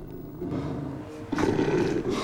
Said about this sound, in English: A large dog growls.